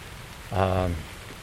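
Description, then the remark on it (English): Heavy rain, growing heavier, hisses steadily as heard from under the overhang of a shed, a dense, even wash of noise, with a short voiced sound rising briefly over it in the middle. “Because it's just too heavy to stand out, to be honest. But it's that lovely rain”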